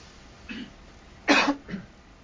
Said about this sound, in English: Now you're spreading the cough. I have one too.